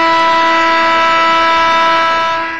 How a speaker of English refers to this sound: Now, we've incorporated a new buzzer at times. And we even have a buzzer associated with when we do the game show. But really, I mean, let's be 100% honest here. I don't think anybody would disagree. There really is one buzzer and one buzzer only.